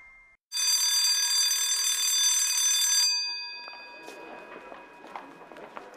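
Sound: school bell ringing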